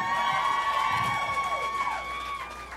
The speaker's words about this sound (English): so give him a big hand today. Come on.